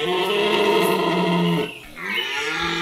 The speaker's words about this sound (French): Moyen d'expression des cerfs, le brame du roi de nos forêts fascine et en ces débuts d'automne, c'est le moment idéal pour l'écouter car cette période correspond à la saison des amours, des cerfs et des biches.